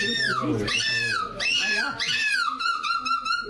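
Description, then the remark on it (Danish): A woman who won the European Championship in seagull screeching imitates a seagull's screech with shrill, wavering cries that swoop down in pitch, three or four loud calls running together without pause. “hun vandt åbenbart for et par dage siden EM i mågeskrig.”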